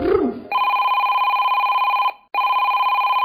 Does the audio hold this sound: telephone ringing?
yes